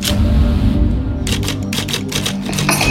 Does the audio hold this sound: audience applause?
no